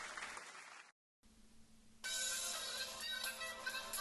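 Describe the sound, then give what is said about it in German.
Applause cuts out briefly, then a steady electronic tone begins and a mobile phone ringtone plays loudly over renewed crowd noise. “Oh, mein Handy!”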